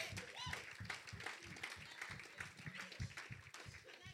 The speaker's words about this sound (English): Clap for the Lord Jesus.